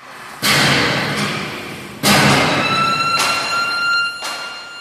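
Heavy hammer blows strike steel at a factory on the industrial outskirts of Cape Town, four loud clangs at irregular intervals, each leaving a bright metallic ring that hangs on between strikes. No voices are heard.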